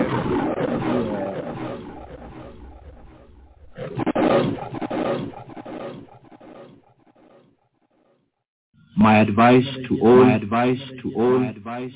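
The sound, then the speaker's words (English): A lion roars in a few deep, rumbling bursts, loud, after a stretch of muffled, lower-level sound, with a brief silence before the final roars. “You know, do the lions roar?”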